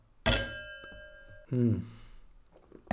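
Glasses of Prosecco clink once, bright, with a clear ringing tone that fades over about a second; a brief murmur of voice follows, then another sharp tap at the very end.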